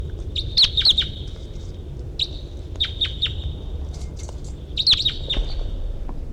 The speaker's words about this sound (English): What is in the direction of the wild bird here? Wild bird. Recording. Wild bird's coming in. Wild bird in flight. Wild bird song phrase.